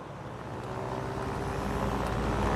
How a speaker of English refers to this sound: Listening, she nods as he backs up. The car pulls forward and turns, heading down the driveway.